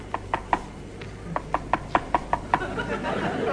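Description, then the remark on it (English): A rapid series of about a dozen sharp, hollow knocks taps on an aircraft windscreen, seemingly from outside the plane, in a steady rhythm, fairly loud over a low engine-like hum that grows noisier at the end. “There's a peculiar knocking sound on the windscreen.”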